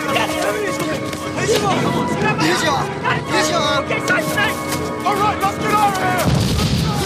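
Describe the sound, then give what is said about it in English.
A dense, chaotic battle din of booming and gunfire in a jungle, with overlapping shouting voices, before a deep, loud explosion rips through the jungle behind Mazarov near the end. “Mazarov dives to the ground as an explosion rips through the jungle behind him.”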